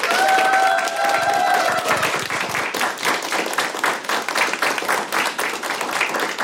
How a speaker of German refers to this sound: Dann nochmal einen großen Applaus